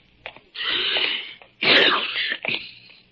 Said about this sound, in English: Ah, confound it. I do not have a cold. A man can sneeze, can't he?